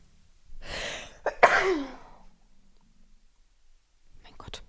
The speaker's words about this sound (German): Ich muss, glaube ich, niesen. Moment.